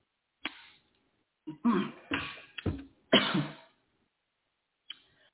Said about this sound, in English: I got a cough real quick.